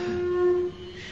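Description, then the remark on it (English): An elephant trumpets once, a steady, horn-like blare held for under a second before it cuts off, loud with no voices around it. “That was the elephant.”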